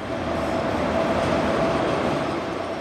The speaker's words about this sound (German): Dann rollt der Zug langsam in den Bahnhof ein, einige Minuten zu früh, nach 9 Stunden Fahrt.